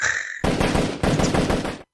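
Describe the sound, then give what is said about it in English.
A loud burst of rapid gunfire, many shots cracking in quick succession for over a second, preceded by a brief high whine and cutting off abruptly, with no voices. “Gunshots everywhere.”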